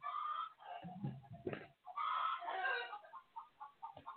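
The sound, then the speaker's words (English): Roosters crow loudly by a window, drawn-out harsh calls overlapping with clucking and a few low thumps, then trailing into shorter squawks near the end. “could you get rid of the roosters, please? Away from the window.”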